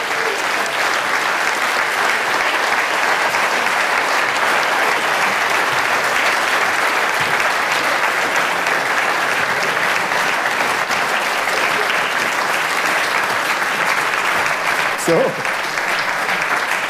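Sustained, loud applause from a large audience welcoming ski racers Marc Girardelli and Birmin Zurbriggen fills the whole stretch, a dense steady clatter of many hands clapping with no pauses and a few brief louder bursts.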